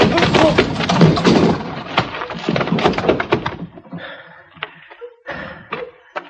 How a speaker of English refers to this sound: Did you knock him out? Well, I hit him hard enough.